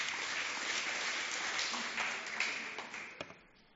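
An audience applauds with dense, steady clapping that holds for a few seconds, then thins out into a handful of scattered last claps as it fades.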